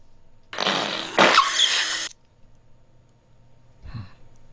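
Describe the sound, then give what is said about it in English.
A long, loud, airy fart lasting about a second and a half, followed after a short pause by a brief low sputter. No one speaks. “Oh, sorry, that's the fart still going from the previous one.”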